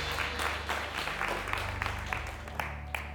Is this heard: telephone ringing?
no